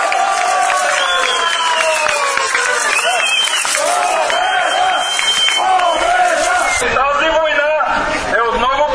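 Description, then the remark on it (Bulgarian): A large outdoor protest crowd in Blagoevgrad Province, Bulgaria, shouts and chants together in loud, rhythmic bursts of victory cries at news of the regional governor's resignation, with clapping and excited voices blending into a continuous roar throughout. “Новината, че новият областен управител, който от ДПС е подал оставка, бе посрещната с викове победа.”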